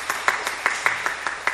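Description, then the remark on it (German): A church audience applauds the pianist's accompaniment at a service with steady, fairly quick clapping, a dense wash of claps marked by a regular beat of sharper hand strikes standing out from the rest, at a moderate level. “Ich glaube, das ist auch mal ein Applaus wert.”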